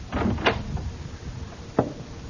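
A bookshop door on Main Street in Pleasantville swings open at dusk with a short scraping rattle and a sharp knock, then a quieter pause before one more brief clunk as it settles. No one speaks.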